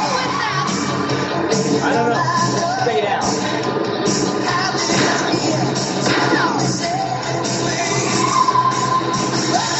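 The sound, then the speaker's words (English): A loud, dense action soundtrack from a TV car show plays throughout, with sharp bangs like gunshots scattered through it, mixed with crowd noise and shouting. “It's got gunfire.”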